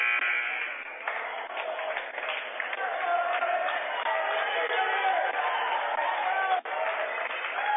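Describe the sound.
A buzzer sounds in a busy gym during a high school basketball game as teams get set to start the second half, its steady tone running under loud crowd chatter, cheering and voices, with the arena noise staying dense and continuous throughout.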